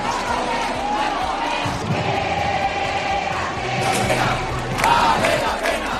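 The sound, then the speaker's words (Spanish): A crowd of protesters demonstrating at the street door of a hospital, chanting and shouting together in a loud, continuous roar of voices, with rhythmic chants rising and overlapping, sharp whistles cutting through, and the noise swelling louder toward the end. “En el PSPB a más de uno no le llega la camisa al cuello y ayer se manifestaron en la puerta de la calle del hospital.”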